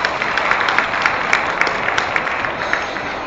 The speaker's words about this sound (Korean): 박수로 소개시켜 드리겠습니다.